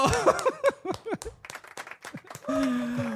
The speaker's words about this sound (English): And now we have another super special guest. You may know her as the host and presenter of MLS Season Pass on Apple TV. Everybody, big round of applause